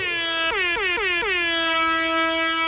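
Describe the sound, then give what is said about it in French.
A loud, sustained air horn in a Canadian Tire advertisement blares with a rich stack of harmonics, its pitch dipping in four quick stutters near the start before holding steady and unbroken to the end. “Mollo sur la sirène?”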